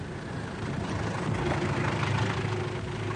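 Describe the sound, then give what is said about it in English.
A taxi's engine idles with a steady, low rumbling drone and faint harmonic hum, holding an even level throughout with no voices. “Oh, he's got a car waiting. Let's follow him, sir. Good idea, Snowy. There's a taxi.”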